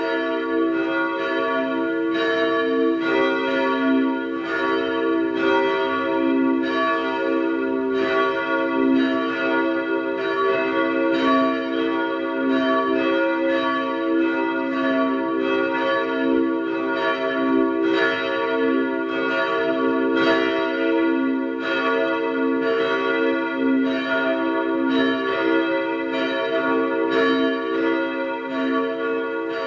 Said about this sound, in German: Es ist 12 Uhr. Sie hören die Glocken der Pfarrkirche St. Ottmar unter den Weißgerbern in Wien 3.